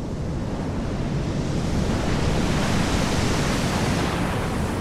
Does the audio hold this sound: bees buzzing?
no